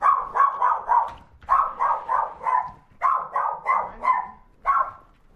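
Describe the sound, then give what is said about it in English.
A small female dog barks in quick, high-pitched bursts of three or four yaps, pausing briefly between each volley, fairly loud with no talking. “What kind of dog? Oh, fierce little She's thing. She's a little one.”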